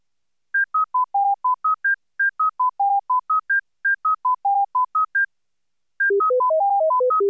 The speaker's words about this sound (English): The first standard contains only the higher frequency tones from the full cycle.